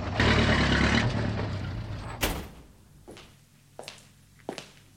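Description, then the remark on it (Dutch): A bus engine rumbles loudly as the bus is parked by a small hall in the French town of Vesoul, then dies away, followed by a sharp burst like an air-brake hiss or door thud and a few fainter clunks. “Zet de bus hier maar even neer.”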